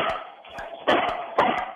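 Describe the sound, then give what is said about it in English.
A mixed-breed dog named Sophie lets out two sharp, loud barks about half a second apart, over a steady, muffled background with softer yips or noises in between. The sound is slightly thin. The dog is being urged to bark as much as it can in 30 seconds. “Try to get Sophie to do all the bark she can, okay?”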